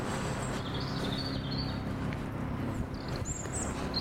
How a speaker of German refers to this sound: Oh, ein Hubschrauber. Oder was? Das klingt wie ein Hubschrauber.